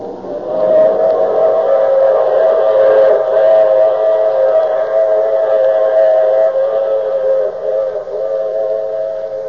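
A steam train's whistle blows one long, loud, sustained chord for several seconds over a low rumble of the moving train, with no voices.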